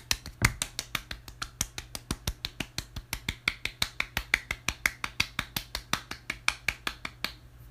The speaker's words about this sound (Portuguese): É as palmas, gente. As palmas que eu tô dando pra vocês. Vocês não só merecem palmas, como ó.